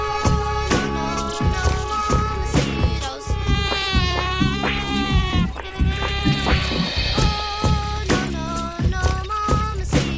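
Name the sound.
mosquito buzzing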